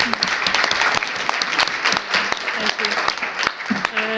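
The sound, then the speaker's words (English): An audience claps steadily for the panellists at the close of a session, a dense crackle of many hands, sustained evenly for a few seconds without any pause or cheering. “So if you can join me just with a round of applause for the panellists.”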